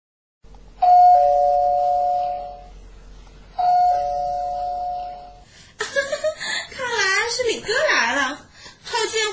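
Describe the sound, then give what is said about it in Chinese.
A doorbell rings twice, each ring a steady, bright electronic tone lasting about two seconds with a short pause between. Someone then starts talking with an animated, rising and falling voice. “爬过去开门去，跪着求他进来，知道吗？”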